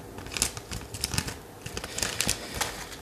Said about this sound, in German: Mache ich denn jetzt diese Tüte auf, ohne sie komplett zu zerstören? Eine Schere.